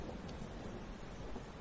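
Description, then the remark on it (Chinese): Steady rain hisses over a low, continuous thunder rumble, a dense wash of storm noise without pause, soft and with no voices. “还真是下雨了，”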